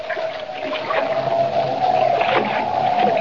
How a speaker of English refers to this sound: Boarding Jimmy's small catboat, Kent embarks on the short run to Lighthouse Point over choppy water and in a freshening wind.